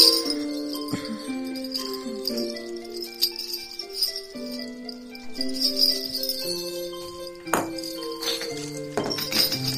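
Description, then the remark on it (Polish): Musical instruments that children had been playing being put down: metallic clinks and jingles with ringing tones that linger and overlap, broken by a few sharper knocks and rattles, at moderate loudness with no talking. “Zapewne słyszeliście, a teraz właśnie słyszycie, jak są odkładane instrumenty.”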